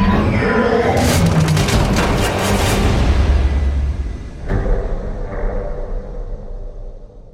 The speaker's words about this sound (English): All right, that was the trailer for Transformers, and for our listeners, that was probably just about 3 minutes of explosions and crashing noises and some yelling and screaming, but there was a lot of cool stuff going on screen there.